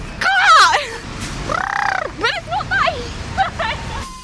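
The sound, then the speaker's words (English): A person imitates an elephant with their voice: a few warbling, rising-and-falling squeals, then a sustained nasal trumpeting blast, followed by shorter wavering hoots over low background murmur. “What does an elephant sound like?”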